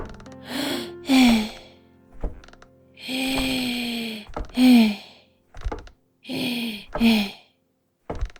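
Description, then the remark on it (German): Heavy, effortful panting in loud rhythmic pairs of strained inhales and groaning exhales as a woman climbs wooden stairs, with dull wooden thumps of her footsteps falling between the breaths. “Im Wäschekorb im Schlafzimmer lauschten vier Sockenohren dem Schnaufen auf der Treppe.”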